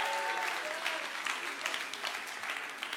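An audience claps in a steady, dense round of applause, many hands overlapping into a continuous crackling wash that holds a fairly even loudness throughout, with no voices standing out.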